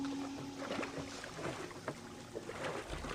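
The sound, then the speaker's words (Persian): Scraping, rustling and small clunks as trash stuck under the motor of a stuck boat is tugged off, with water sloshing and a low steady hum underneath, and no voices. “قایق گیر کرده، فکر کنم این چیزی زیر موتوره، نمیتونم ببینمش.”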